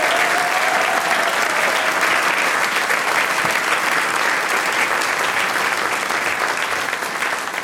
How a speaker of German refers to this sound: Das ist dein Applaus.